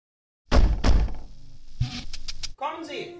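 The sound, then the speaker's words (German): Two loud knocks on a wooden door, followed by a duller thump and some faint shuffling, then a voice begins speaking near the end. “Ein wahrer Saustall, sagte er sich zwar, überlegte dann aber, dass er ja gar nicht warten müsse, und klopfte einfach an die Tür.”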